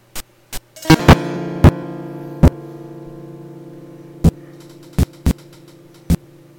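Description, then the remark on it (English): A harsh, distorted electric guitar chord, played with a distortion output kicked in, rings out over a steady low amplifier hum, punctuated by loud, sharp crackling pops at irregular intervals. “Well, let's move ahead, take off that amplifier, and kick in a distortion output.”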